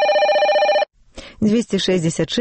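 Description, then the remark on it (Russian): A telephone on an answering-machine line in Minsk rings once in a short, trilling, warbling burst, then cuts off. After a brief silence a voice starts talking. “телефон аўтаадказніку Менску.”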